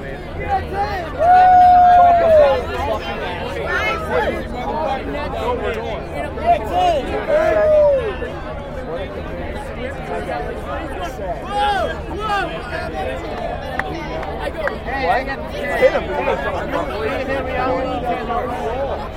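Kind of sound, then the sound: crowd, crowd chatter and hubbub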